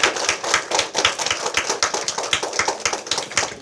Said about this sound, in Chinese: 给我们神热烈的掌声。